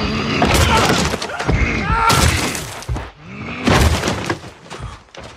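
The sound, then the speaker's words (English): A giant's head smashing against a wall and a hapless archer in a rapid series of loud crunching impacts with shattering, crumbling debris, the heavy blows coming in bursts over several seconds. “Great, and now let's hear the giant's head smashing of the wall against that hapless archer.”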